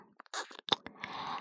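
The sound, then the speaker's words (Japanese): Wet, smacking mouth sounds like ear licking: a series of short clicks and slurps, then a longer soft, moist sweep, with no talking. “私に耳を舐められて気持ちよさそうにしているご主人様のお顔が見られてしまいますね。”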